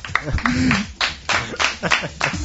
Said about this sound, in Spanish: Esto merece un aplauso.